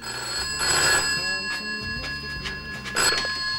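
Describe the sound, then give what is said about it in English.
A telephone rings with a steady, bright electronic tone that holds throughout, fairly loud, with a few brief rustling bursts and a low hum underneath. “When the phone rings, she doesn't even listen.”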